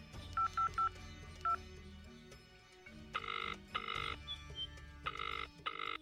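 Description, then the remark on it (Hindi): A phone keypad being dialed to call a doctor: three quick electronic beeps, then a fourth, followed by repeated buzzy ringing tones in bursts over a low background hum. No one speaks. “उनको फोन लगाते हैं।”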